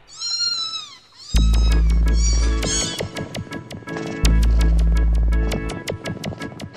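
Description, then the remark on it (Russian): A single drawn-out cat meow sounds clearly at the start, then a bouncy music track with a heavy, steady beat kicks in and carries on to the end. “А кто лучше всех пролезет под забором? Кошка.”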